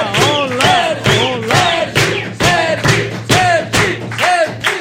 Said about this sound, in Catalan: Rebeu amb un fort aplaudiment a Sergi Mas!